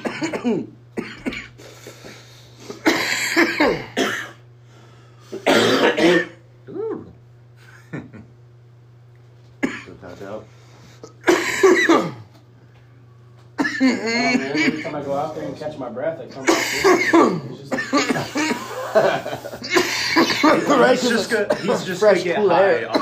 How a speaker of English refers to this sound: Now I'll fucking cough myself into a fucking headache.